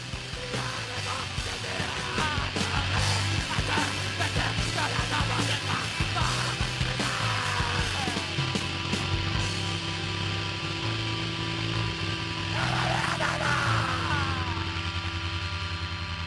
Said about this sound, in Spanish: Escuchemos gritos que se quieren volver conscientes. Los gritos desesperados de Petre antes de volver con la lectura.